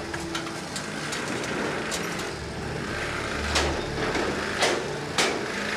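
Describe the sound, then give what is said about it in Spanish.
A van's engine rumbles steadily as it pulls in and parks, with a low hum beneath a broad mechanical whir and a few sharp clicks and knocks toward the end. “Daniel estaciona la camioneta y Labarde abre la puerta lateral.”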